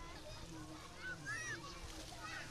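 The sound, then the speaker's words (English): Busy water park ambience in sweltering heat in Champagne: constant splashing and sloshing water mixed with a crowd of children's chatter and occasional high-pitched squeals, all blended into a steady wash of noise. “Hence the water park, where mankind and sweltering heat come together in blissful union.”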